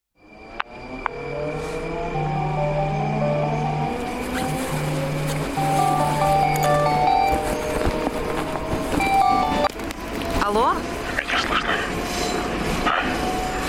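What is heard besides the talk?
subway train rumbling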